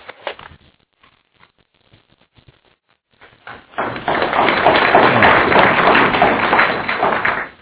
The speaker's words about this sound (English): Oh, it was very daring of you to clap before you've even heard me speak. Thank you.